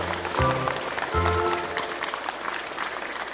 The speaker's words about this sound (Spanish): Queremos darle la bienvenida a la compañera María de Jesús Patricio Martínez y al equipo de concejales que lo acompañan. Queremos recibirlo calurosamente con un fuerte aplauso a nombre de Chapultenango y de sus comunidades.